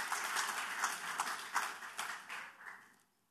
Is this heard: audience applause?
yes